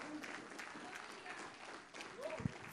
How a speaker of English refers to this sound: Give the Lord a clap of praise tonight.